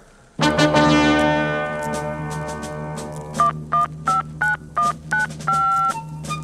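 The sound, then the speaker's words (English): A steady tone hums for a few seconds, then a quick, evenly spaced series of about nine touch-tone beeps rings out clearly as a telephone number is dialed for Albert Brooks' phone call to Americans, with no talking. “A phone call to Americans.”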